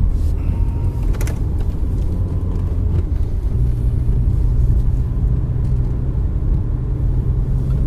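Inside a moving car on a rainy day: a steady road-and-engine rumble fills the cabin with a soft wash of noise above it, and a brief knock sounds early on. No one speaks.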